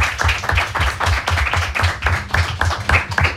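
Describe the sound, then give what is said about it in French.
A small group applauds steadily for a few seconds, the claps dense and overlapping into a continuous, fairly loud patter with no voices, applauding a crew member who handles the images and sound. “mais qu'on peut applaudir, qui est avec nous pour faire des images et du son.”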